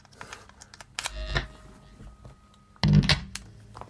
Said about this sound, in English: This noise generator I really like on this.